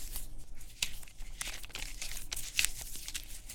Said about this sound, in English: I twisted paper so it became more like a line of fiber or a thread. I knotted together several lengths of the paper, and eventually it will end in something special for the audience.